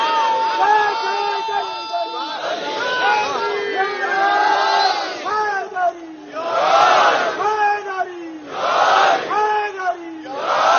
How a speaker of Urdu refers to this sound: ناد علی محمد, بلند آواز سے پکارو علی کو. آج پتا چلا کہ یہ نعرہ حیدری بھی سنت رسول ہے.